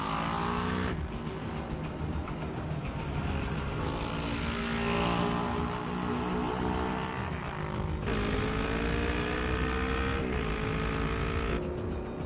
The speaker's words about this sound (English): The motorcycle starts to gain ground on the Range Rover. Martin sees its headlight appear in his rearview mirror. Lisbeth guns the bike's engine, shrinking the gap between her and the car.